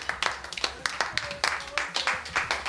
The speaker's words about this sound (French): Alors au jeu des 1000 euros, comme au jeu des 1000 curieux, eh bien on s'applaudit. On applaudit les participants.